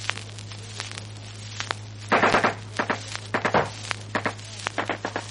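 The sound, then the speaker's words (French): Gunfire in short, rapid bursts during a fight in a trench, with a patrol leader directing the fire: sharp crackling shots come in clustered volleys with brief gaps between them, over a steady low hum, with scattered single pops before the heavier bursts begin. “Le combat s'engage dans la tranchée. Le chef rebondit par la chicane. Il dirige le tir.”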